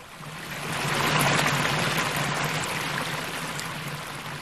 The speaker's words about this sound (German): Es ist Bodenseewasser, das hier aus dem Brunnen spritzt. Ich stelle mir vor, dass es das gleiche Wasser ist, das den Cognac-Bonbon umfließt. Das gleiche Wasser, aber immer neu. Ein bisschen Bodenseewasser an unserer Uni.